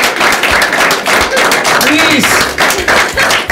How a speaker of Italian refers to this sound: Fate un applauso insomma, dai!